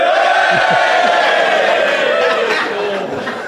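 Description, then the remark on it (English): A crowd cheers and whoops loudly, a dense roar of many voices held steady for a few seconds before easing off slightly toward the end. “If you think I acted immorally, cheer now.”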